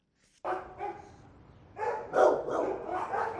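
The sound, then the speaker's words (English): Several dogs bark at once in an animal shelter in western Los Angeles that houses more than 200 cats and dogs, their overlapping barks and yips coming in busy bursts with a steady background din and no talking. “It is rarely quiet in this animal shelter in western Los Angeles. More than 200 cats and dogs live under the shelter's roof.”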